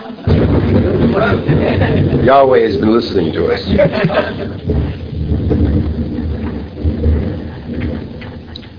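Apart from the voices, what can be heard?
thunder rumbling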